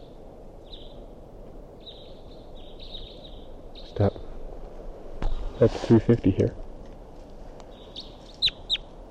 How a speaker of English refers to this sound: So recording, this is a wild bird.